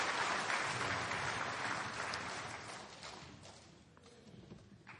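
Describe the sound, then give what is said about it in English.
An audience applauds after remarks by Commissioner Poizner, with dense, steady clapping that starts loud and gradually fades over several seconds, with no voices heard above it. “And if you give me a round of applause, I will answer any questions you have on any subject.”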